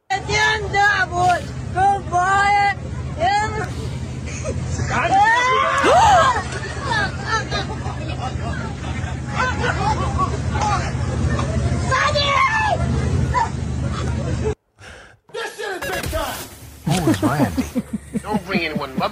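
A loud, terrified scream rises above a dense, noisy crowd babble, with shrill wavering cries that peak midway before the hubbub cuts out abruptly near the end.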